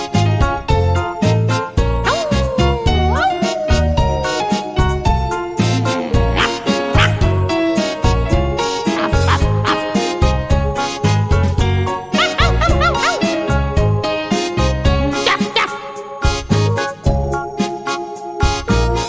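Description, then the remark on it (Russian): Dogs bark, yip and let out short howling cries at the moon, layered over a loud, bouncy music track that plays without a break throughout. “Громко-громко воют на луну.”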